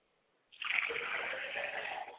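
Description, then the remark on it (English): After a brief silence, liquid is poured out to the north as a libation in a steady, splashing stream that starts abruptly and continues for about two seconds, fairly loud, with no voices. “Now we pour to the north going down.”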